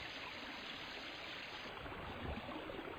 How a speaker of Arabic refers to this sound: صباح الخير أيها النهر الصغير.